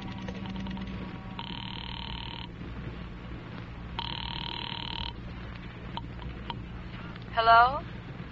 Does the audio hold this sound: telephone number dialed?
yes